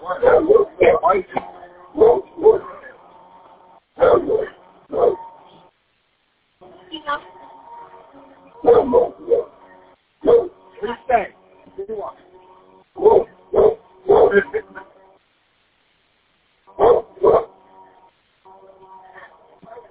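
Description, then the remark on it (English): A dog on a path barks repeatedly at a person, firing off sharp, loud barks in quick clusters separated by brief pauses, with a faint whiny tone between some bursts. “Girls down on the path looking like this because he's like barking at me.”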